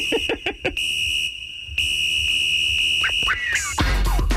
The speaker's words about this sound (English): But what a stupid way to start a song. Like, this, is there anything more 1991 white boy hip hop than it's like, you know what we're going to put at the front of the song? Just some whistles.